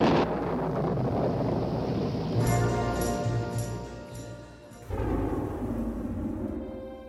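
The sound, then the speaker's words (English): A deep, continuous rumble of thunder at the very beginning of a song rolls through the whole stretch, broad and heavy like a storm, with faint ringing tones surfacing briefly in the middle before the roar swells again. “We even get the same thunder in the very beginning of the song”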